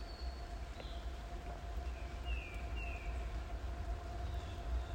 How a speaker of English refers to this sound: Here comes the train.